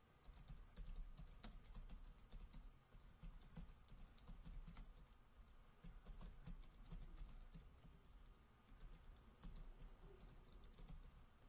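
Steady, rapid keyboard typing fills the whole stretch, a dense patter of clicks and key taps with no voices, continuing without pause over a low background rumble.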